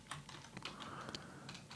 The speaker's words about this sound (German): Ich höre dich tippen.